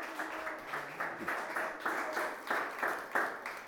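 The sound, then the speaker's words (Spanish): An audience breaks into applause for the Christ of glory, many hands clapping together in a steady, rhythmic beat of moderate loudness, with a few faint voices calling out underneath. “Dale un aplauso al Cristo de la gloria.”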